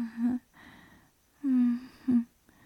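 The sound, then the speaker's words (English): A person yawns aloud a few times: drawn-out, voiced, low-pitched groans with breathy stretches in between, fairly loud, with no talking. “I'm just yawning is all.”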